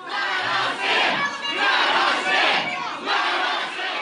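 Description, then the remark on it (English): A large crowd of people's rights activists led by Bundy, many armed, shouts and yells in rough, surging waves while storming the Idaho Capitol during a special legislative session, the loud roar of many voices rising and dipping roughly every second with no single clear speaker. “So he and a group of people's rights activists stormed the Capitol.”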